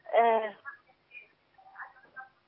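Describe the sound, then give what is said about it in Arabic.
A television plays faintly in the background of a caller's phone call, its muffled voices and program sound coming through in short, thin bursts over the phone line, with one louder tonal burst at the start. “اخفض التلفاز واسمعيني من الهاتف.”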